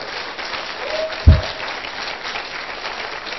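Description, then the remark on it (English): A brief patter of applause from a small audience, fairly soft and steady, with one sharper low thump partway through. “You can clap.”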